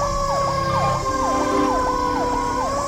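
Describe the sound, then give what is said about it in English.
A rescue vehicle siren wails continuously, its tone sweeping rapidly up and down in a steady repeating pattern, loud over a low engine rumble, with no voices, as the rescue vehicle appears in the distance. “Slowly lit a camel as I watched the rescue vehicle start appearing in the distance, you know.”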